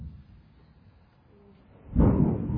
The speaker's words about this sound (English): Hear the thunder. That's a nice sound.